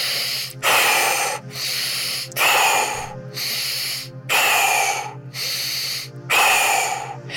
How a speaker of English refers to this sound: So we'll begin the breath work. Breath now. Deep breaths in through the nose. Breathing out through the mouth. It's a circular breath work. Turn the wheel of the breath in and out. Continuous.